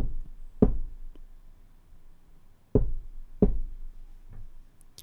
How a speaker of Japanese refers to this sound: 次にショックマウントの性能について確認します。今卓上マイクスタンドに、この XM8500 立ててありますけれども、この乗ってるテーブルを軽くげんこつで叩いてみましょう。